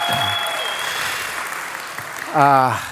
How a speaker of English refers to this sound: But you get, go ahead and clap. Go ahead. Yeah.